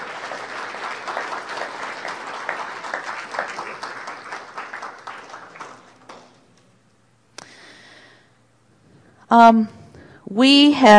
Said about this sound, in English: I think that deserves a huge applause.